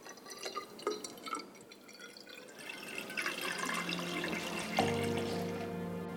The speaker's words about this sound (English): Next, they mix the dyes and add water to a cylinder.